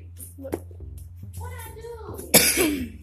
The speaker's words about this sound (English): Oh my god, sorry y'all, I got a bad cough.